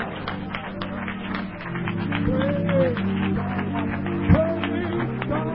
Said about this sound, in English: Oh, let's clap our hands to the Lord, shall we? Hallelujah. Let's clap our hands to the Lord.